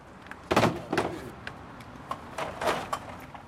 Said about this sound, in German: Draußen vor der Tür lädt der Bierfahrer seine Lieferung ab. Einen vollen Kasten nimmt er mit einer Hand und erzählt von einem Kollegen, der dasselbe mit 5 leeren Kästen tut.